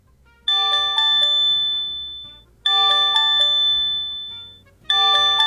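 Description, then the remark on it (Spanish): A loud electronic earthquake alert demonstration tone from a phone's emergency alert settings repeats three times, each burst a rapid cluster of bright chiming beeps that ring out and fade before the next begins, with no talking. “Pues, claro, cuando son temblores más fuertes, debería sonar así.”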